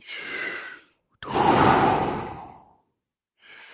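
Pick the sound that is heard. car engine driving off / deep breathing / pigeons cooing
deep breathing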